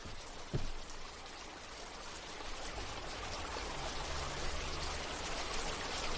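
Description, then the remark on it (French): Steady summer rain patters onto a water surface, a dense, even hiss of countless drops with a soft trickling undertone, continuous, with one brief sharper plop near the start. “L'eau frémit sous la pluie, se ride, s'ondule, se plie.”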